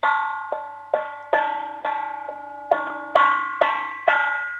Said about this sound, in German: Hol einen Kochtopf und einen Löffel und dann möchte ich so richtig viel Lärm hören. Klopf mal drauf, weil ich liebe Lärm.